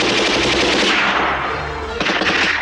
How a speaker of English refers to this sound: He kills two men with a heavy machine gun and charges toward their position, firing as he goes to pin down the other troopers.